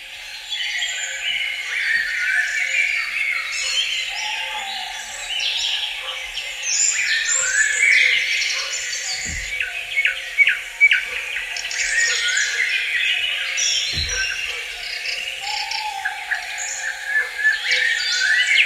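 A dense chorus of forest birds chirps and trills continuously, many overlapping calls blending into a bright wash of song with cathedral-like reverberation from the forest, with a couple of low thumps partway through and no talking.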